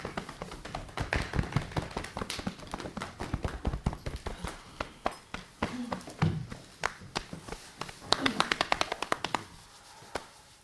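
A person's hands pat and tap on their own body in quick, uneven bursts, fairly soft, with a denser flurry of slaps near the end, as part of a wake-up exercise to feel the body.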